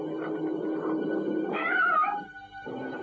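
A cat yowls in video game footage of a puzzle game scene set in a rat's unconscious, a drawn-out, wavering cry that rises in pitch midway and then trails off, fairly loud with no talking.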